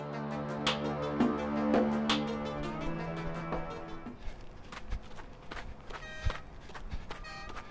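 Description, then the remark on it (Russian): Sustained musical tones fade out, then a few slow, irregular footsteps crunch and creak on snow, with no talking. “Редкий скрип шагов да пронзительные гудки машин и холод, холод.”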